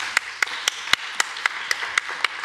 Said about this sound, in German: Applaus nochmal. Eine warme Hand.